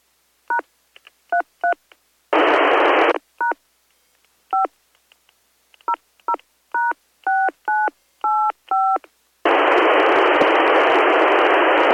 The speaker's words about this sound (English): It's fun because I can type in DTMF tones by holding down PTT and pushing the keypad.